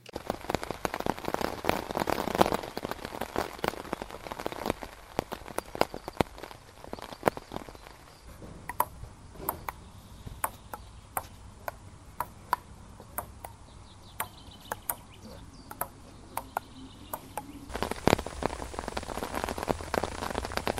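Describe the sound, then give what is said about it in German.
Steady rain patters on a surface while sharp, irregular clicks of a table tennis ball bounce and get struck at a radio camp at Lake Constance, busier early on and sparser later. No one speaks. “Regen und Tischtennis war allerdings nicht das Einzige, was es auf dem Radiocamp am Bodensee gegeben hat,”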